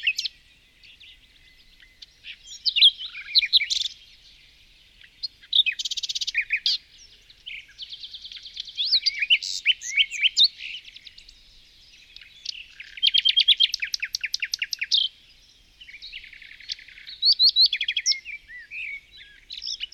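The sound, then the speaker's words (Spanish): A small bird chirps and sings among the branches of a tree in rapid, high trilling bursts, with short pauses between phrases over about twenty seconds, clear with no other sounds. “Entre sus ramas contempla un pequeño pájaro.”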